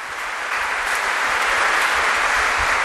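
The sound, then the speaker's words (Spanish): Steady, dense applause from a church crowd honoring the families of seminarians, a continuous wash of many hands clapping at an even loudness throughout, with no voices standing out. “Merecen un fuerte aplauso.”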